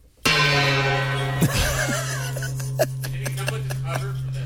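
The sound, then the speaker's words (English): A single loud gong strike blooms into a long, shimmering resonance that rings on without fading. Voices talk and laugh over the sustained tone. “That's what a gong's supposed to sound like, not.”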